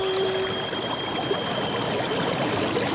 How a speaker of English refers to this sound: what's that noise? It sounds like a giant waterfall. There are no falls around here. It's a whirlpool. We're being sucked under.